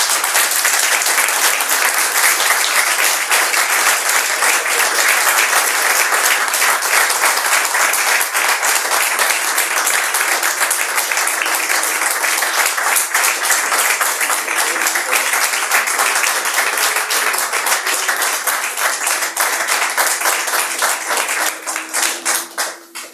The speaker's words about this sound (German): Ich glaube, das war der bisher längste Beifall für einen Iceberg-Talk-Vortrag. Stufe 10 der LV1 Applaus-Skala.